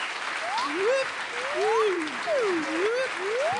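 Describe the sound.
An audience applauds in a steady, dense wash of clapping that lasts several seconds, with rising and falling whoops and cheering voices riding over the top.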